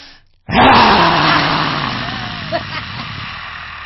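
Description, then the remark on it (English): During a hands-on-hips breathing exercise, a human voice lets out a deep, guttural growl that starts abruptly and rasps on for over three seconds, loud and rough at first, then slowly fading. “And then we're going to add the sound is a deep guttural growl.”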